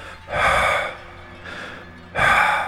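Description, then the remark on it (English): Loud, raspy wheezing breaths, three of them, each a drawn-out airy rush with a short pause between. The first and last are strongest, the middle one quieter. No talking. “Suddenly I heard a loud wheeze.”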